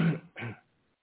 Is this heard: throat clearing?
yes